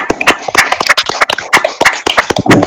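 A small group claps steadily for a few seconds, a dense patter of sharp, bright hand claps with no voices heard.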